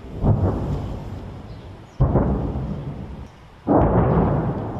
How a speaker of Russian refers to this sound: С окрестностей доносится эхо боя. Очень громко.